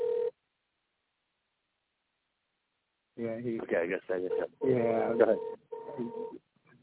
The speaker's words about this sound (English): Technical difficulty. Let me see. The phone's ringing to get him into the show.